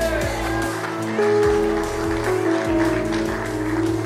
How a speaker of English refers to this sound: Only a few of y'all clap, not everybody.